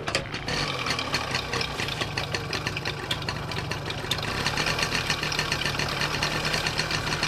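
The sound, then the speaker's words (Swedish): A fully original vintage Zündapp 69 moped engine sputters to life after a brief pause, then settles into a steady, rapid idling putter, loud, with no voices. “Berätta först vad det är för moped du ska starta. Det här är en syndapp 69.”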